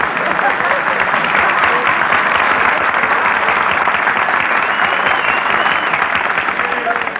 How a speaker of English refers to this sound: Nobody was supposed to applaud there.